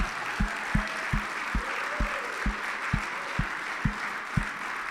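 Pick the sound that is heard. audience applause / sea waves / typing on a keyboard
audience applause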